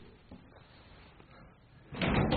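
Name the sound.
chair being moved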